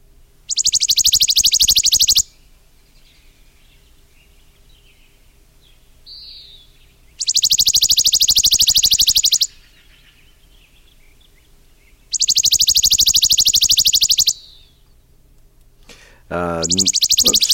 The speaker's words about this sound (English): So I thought I would play the song of the chipping sparrow to you so you know what to listen for.